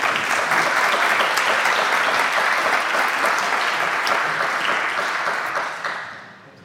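A crowd claps steadily in a dense, sustained round of applause, loud and close, holding for several seconds before fading out near the end.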